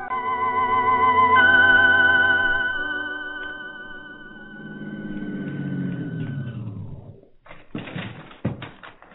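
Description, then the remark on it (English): A car engine hums steadily, its pitch sliding downward as the car drives up to a shack and the engine cuts out, followed by a few sharp clunks and rattles, with no one talking. “Whoever is in that shack can't be doing any harm, or they'd have run when they heard the car.”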